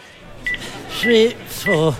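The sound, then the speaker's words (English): A couple of short, high keypad beeps as a phone number is punched into a telephone, with voiced sounds from a person in between, moderately loud. “Do you mind if I use your banana? Oh, it's not bloody banana. Your telephone.”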